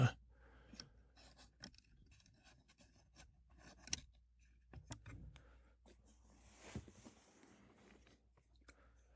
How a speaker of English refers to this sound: Okay, so I just wrote all the Twitter trends here on a piece of paper, since it's tough to find a Twitter app.